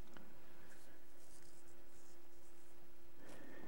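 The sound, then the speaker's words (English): A sheet of paper being turned over, with soft scattered rustles and a sharper crinkle near the end, fairly quiet over a faint steady hum. No one speaks. “I have a note here at the bottom that says turn up paper, so I'm going to do that.”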